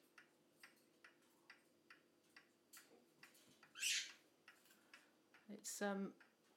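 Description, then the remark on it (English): An antique American mechanical clock, made between 1875 and 1914 by the British United Clock Company, ticks steadily at a quick, even pace, clear, interrupted near the end by a couple of brief, shrill squawking sounds. “It was made between 1875 and 1914 by the British United Clock Company.”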